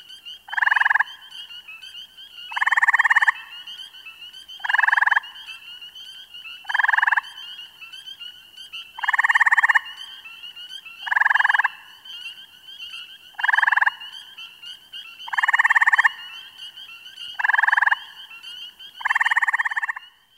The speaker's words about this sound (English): Fix in your mind the musical trills of this group of gray tree frogs.